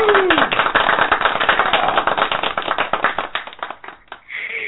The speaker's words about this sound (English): I think she deserves a proper clap for this interview. So let's give go it ahead. A clap.